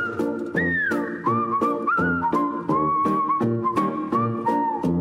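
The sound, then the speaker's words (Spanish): A bright whistled jingle, the 'chiflidín' segment jingle of the radio show El Tlacuache de Los 40, carries a bouncy melody over a rhythmic musical backing with steady beats, loud, with no talking. “Y sí, ya llegó el chiflidín junto con mi gran amiga”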